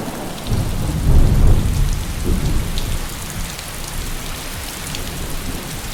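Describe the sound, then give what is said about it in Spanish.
Steady rain falls on a tropical forest in Fiji in the Pacific, soaking the rich volcanic soil, with a dense, even hiss and scattered drips, while a low rumble of thunder swells early on and then fades beneath the downpour. “por encima del azulado Pacífico, baila entre las copas del bosque y se desliza hasta empapar el rico suelo volcánico, filtrándose hasta el acuífero muy por debajo del suelo del bosque.”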